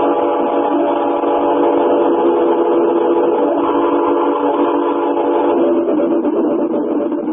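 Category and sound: vehicle, train running on rails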